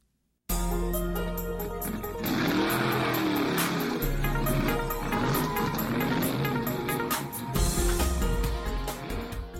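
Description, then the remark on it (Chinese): A motorcycle engine roars loudly, revving up and down in pitch for several seconds with a steady, throaty rumble underneath. “一，摩托车 ，motorcycle。”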